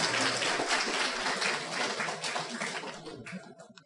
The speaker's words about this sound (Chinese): 好好，感谢主，我替他们鼓掌。